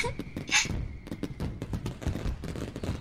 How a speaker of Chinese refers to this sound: 真的有烟花，好漂亮啊！我已经很久很久没有看到烟花了，上一次还是在老家，小时候过年的时候呢。